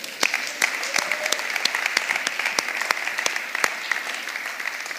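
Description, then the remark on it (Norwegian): An audience applauds steadily for about five seconds, a dense wash of many hands clapping with sharp individual claps popping out irregularly, moderately loud and without any talking. “Det kan dere jo klappe for.”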